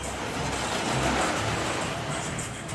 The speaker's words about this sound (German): So, und jetzt bleiben wir kurz mal stehen. Jetzt stehen wir vor dem größten Kettenflieger Europas, der gerade Teile nach oben hebt.